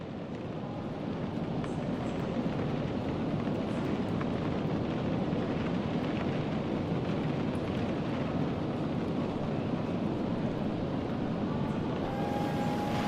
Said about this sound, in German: Ein weiterer Pfiff ertönt und langsam kommt der Zug ins Rollen. Er verlässt den Bahnhof.